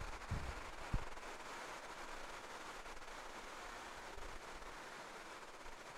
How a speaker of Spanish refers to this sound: Yo sé que La lluvia siempre juega un factor bien difícil contra nosotros. Pero tratemos de acomodarnos a la lluvia. Yo creo que pasa ahorita.